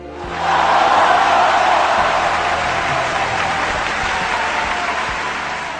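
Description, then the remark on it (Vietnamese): Men on the shore break into loud, sustained applause and cheering as a small motorboat comes to a stop just short of the harbour, a dense roar of clapping hands and voices that swells quickly and holds steady for several seconds. “Mấy anh trên bờ khoái chí hoan hô ầm ĩ.”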